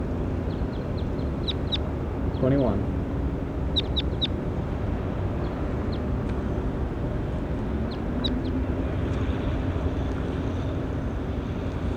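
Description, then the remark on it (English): High, thin bird calls ring out in short clusters of quick chirps, repeating several times over a steady low rumble of background noise, with a brief rising squawk early on. “Start recording 21. There he is.”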